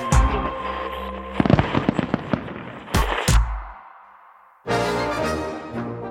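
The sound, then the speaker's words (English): Fourth of July fireworks explode in the night sky in a rapid string of sharp pops and crackles, with two loud booms near the middle, then a fading hiss before another dense, noisy burst rushes in toward the end. “Each 4th of July, as fireworks light up the night sky and red, white, and blue flags fly overhead”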